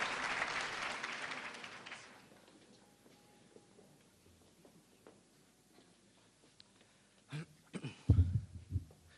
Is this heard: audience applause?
yes